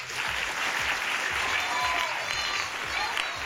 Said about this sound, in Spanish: Yo percibo que son buena gente, así que sí, por favor, ¿podéis darle un aplauso